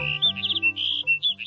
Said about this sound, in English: And this is a sagebrush sparrow singing from atop a big sagebrush. As their name suggests, sagebrush sparrows live in dry, open shrublands.